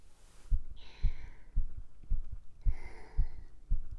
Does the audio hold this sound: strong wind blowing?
no